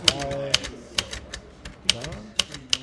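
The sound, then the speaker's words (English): Sharp mechanical keystrokes on an old manual typewriter wired up as a computer keyboard, typing an email, strike in an uneven rhythm, roughly a dozen crisp clacks, with a man speaking underneath. “making a computer keyboard out of an old manual typewriter. So I'm writing you an email right now”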